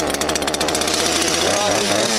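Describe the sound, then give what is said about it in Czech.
A chainsaw, used by a woodcarver to shape the folds of a carved figure, roars loudly and steadily, its buzzing drone filling the whole stretch with slight revving fluctuations. “Po krátkém boji s pilou znovu začal tvarovat faldy svého dobře stavěného úderníka.”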